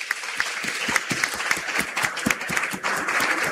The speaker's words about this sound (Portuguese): E quem tem menos de 60, levanta a mão. Quem tem menos de 60, palmas.